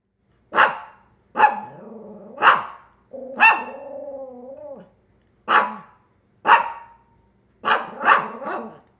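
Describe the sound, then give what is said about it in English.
Pookie, a family's little black poodle, barks in a string of about eight sharp, high yaps, with a couple of drawn-out, warbling whine-growls in between. No voices, just the dog alone. “Pookie is my family's little black poodle, and she loves to answer questions from boys and girls.”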